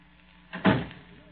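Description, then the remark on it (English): A door shuts with a short, solid thud, a single impact that fades quickly into quiet. “Loretta, the door.”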